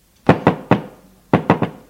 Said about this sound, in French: L'on frappe à la porte.